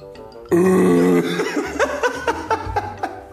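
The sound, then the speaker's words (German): A voice imitates a fish underwater: a loud, drawn-out gurgling croak, then a quick run of soft bubbly pulses, with no other talk. “Wie hört sich in deinem Kopf ein Fisch unter Wasser an?”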